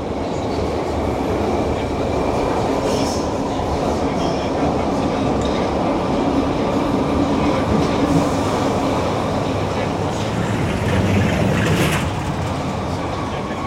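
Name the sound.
tram riding along rails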